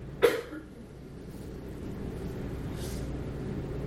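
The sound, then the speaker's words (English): One sharp cough bursts out near the start, followed by a much fainter cough-like sound a few seconds later, both over a low, steady background rumble. “Who's doing coughing?”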